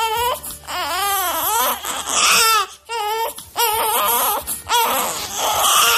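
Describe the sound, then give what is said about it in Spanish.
A baby cries loudly in repeated wavering wails, each howl rising and falling with short gasping breaks between them. No one speaks over it. “Tú sabes que el llanto de un bebé es imposible de ignorar.”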